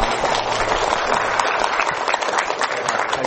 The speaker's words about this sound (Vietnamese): Xin cho tràng pháo tay.